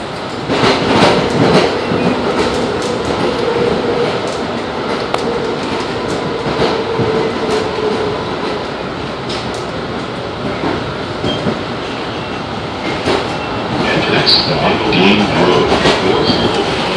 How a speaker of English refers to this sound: Dean Grove. The destination of this train is North Station. Next stop, Cleveland Circle.